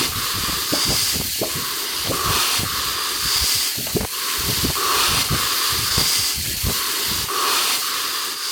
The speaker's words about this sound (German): Es ist Herbst und die Winde wehen. Das tun sie in jedem Jahr, aber diesmal scheint es besonders stark zu sein.